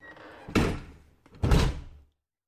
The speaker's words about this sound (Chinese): 你问我为什么把门锁上了？进门之后关门，这不是很正常的事吗？